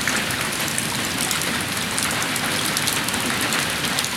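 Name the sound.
rain falling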